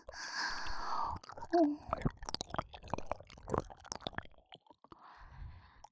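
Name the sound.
licking sounds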